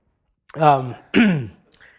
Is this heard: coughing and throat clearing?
yes